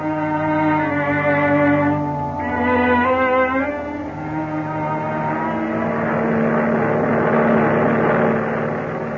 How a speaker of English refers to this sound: The scene? A transport airplane moving through the sky at high speed.